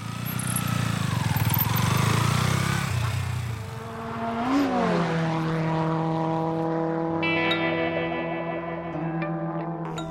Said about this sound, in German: Doch es klappt, das so typische Merkmal jedes Motorrads ertönt.